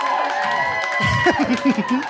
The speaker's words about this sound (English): Some of you are clapping a little too happily.